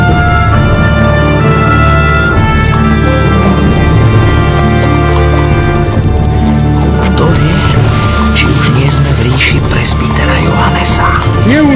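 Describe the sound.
Horse hooves clip-clop at a steady pace beneath a dense, loud wash of sustained tones, with indistinct voices mixed into the busy background.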